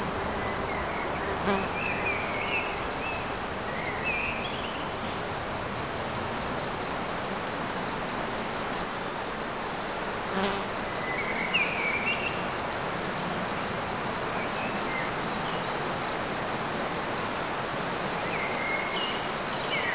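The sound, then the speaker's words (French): Steady, rapid insect chirping with a buzzy, almost electronic pulsing tone, continuous throughout, over a soft outdoor background hiss with faint occasional bird-like calls. “Non seulement les insectes, les oiseaux, la rivière, et cet insecte-là, n'est-il pas le premier à avoir inventé les sons électroniques ?”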